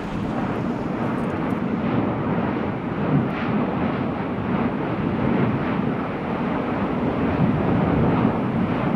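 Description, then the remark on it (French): The Piton de la Fournaise volcano on La Réunion, recorded in 1998, roars continuously as it erupts, a dense, steady rumble with a hissing, surf-like texture and faint surges in intensity, loud and unbroken throughout with no voices. “le Piton La Fournaise à La Réunion, ici capté par Fernand Deroussen en 1998”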